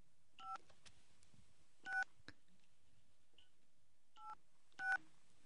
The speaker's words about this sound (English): Anyway, I'm going to dial the phone now. Let's see. All right. Now we're going to have to not let the audience hear the whole phone number here.